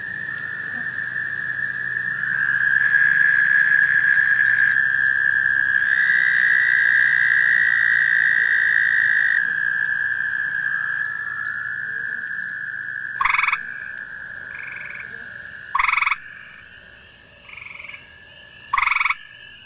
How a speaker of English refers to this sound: American toads join the peepers later in the spring. Their love song is a melodic trill that fills the nighttime soundscape with strange overtones and slightly discordant harmonies.